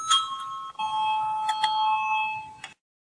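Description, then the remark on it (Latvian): A bright electronic bell chime in the Latvian parliament (Saeima) rings out in two sustained tones, a clear ding-dong signal calling a vote, holding for a couple of seconds before cutting off abruptly. No one speaks. “Lūdzu, zvanu, balsosim par 9. Ārlietu komisijas iesniegto priekšlikumu.”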